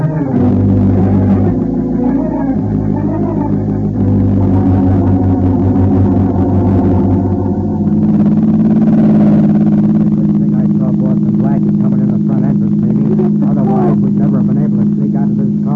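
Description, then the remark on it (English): A car engine roars at speed throughout, a loud sustained drone that surges and rises in pitch about halfway through, accelerating hard in a car chase with a pursuing car right behind, with a dense, distorted texture. “Paul Blackie is right behind us in his car. We'll lose him right now.”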